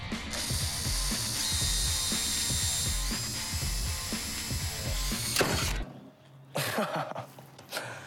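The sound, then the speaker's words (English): A small power drill with a small bit whines and chatters as it drills out the rivets holding a nameplate, biting into metal for about six seconds, stopping briefly, then running again in a shorter burst. “I think what we need to do is get you a nice small drill bit.”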